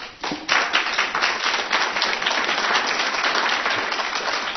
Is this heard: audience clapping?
yes